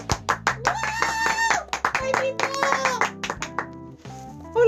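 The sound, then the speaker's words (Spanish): Sharp, evenly spaced hand claps ring out over a bright, tonal musical jingle, loud, continuing in a steady rhythm for several seconds before tapering off. “¡Un aplauso!”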